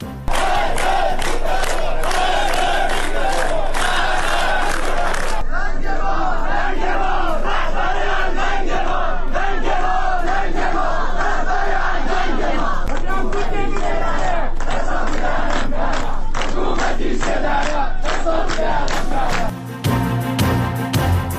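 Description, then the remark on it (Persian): A large protest crowd at Mahsa's funeral chants and shouts in unison, loud and sustained, with rhythmic rising cries and a dense roar of many voices throughout, briefly cutting to a different harsher burst near the end. “مراسم خاکسپاری مهسا همراه اعتراضات عمومی.”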